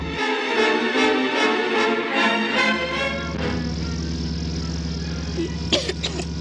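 A car drives across a wide dust-covered area with a steady, loud engine rumble and rough, noisy texture, settling into a lower drone midway, with a few brief sharp rattles near the end; no one speaks.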